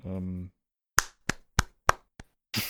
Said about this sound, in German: oder willst du heute nur in die Hände klatschen?